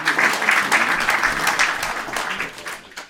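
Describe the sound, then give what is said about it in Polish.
A crowd applauds steadily, many hands clapping in a dense, continuous wash that stays fairly loud before easing off slightly at the end, welcoming guest Professor Grzegorz Berendt, director of the Museum of the Second World War, at a Radio Gdańsk event. “Wielkie brawa.”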